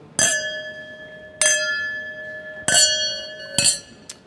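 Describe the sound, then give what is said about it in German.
Champagne glasses clink together in a toast to the Goldene Podcastblase 2020 at an event: four bright, ringing chimes spaced about a second apart, each leaving a sustained glassy tone, followed by a faint final tick. No one speaks. “ich möchte euch anstoßen.”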